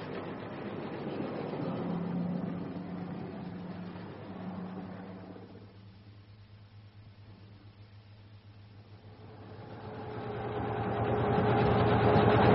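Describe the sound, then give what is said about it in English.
An engine runs steadily with a low droning hum and broad mechanical rumble, easing quieter midway before swelling louder again toward the end. No one speaks. “Stop the engine,”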